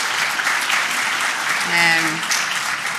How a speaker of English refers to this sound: I think that deserves applause, because we've all done so well.